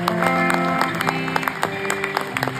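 A crowd of people in Medford claps steadily in dense, overlapping applause, with sustained musical tones ringing underneath and no voices standing out.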